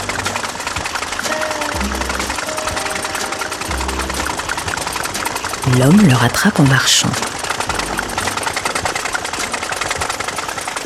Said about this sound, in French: Pendant que le bonhomme observe le moteur, il lève subrepticement les mains vers le guidon et saute en selle. Il démarre.